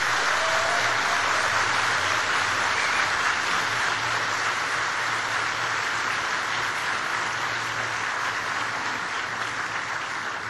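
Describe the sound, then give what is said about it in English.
The McGill class of 2015 applauds all the people who helped them: a large crowd clapping steadily, a dense wash of clapping that stays loud and even for about ten seconds without letting up, with no voices standing out. “But I want you, class of 2015, to give a big round of applause for all the people who've helped you.”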